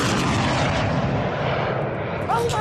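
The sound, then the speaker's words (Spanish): Loud, steady roar of a Saudi helicopter's engine during an attack on it in the war in Yemen in late November, filling the whole few seconds, with a brief high whistling warble rising near the end. “Este otro ataque contra un helicóptero saudí a finales de noviembre ejemplifica otro conflicto que está enquistado, envenenado.”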